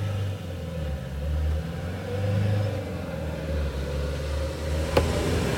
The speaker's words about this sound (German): Tja, wir sind im Van unterwegs. Da kann das schon mal vorkommen, dass hier auch ein Auto vorbeifährt. Kann auch mal so ein Auto vorbeifahren, das stimmt.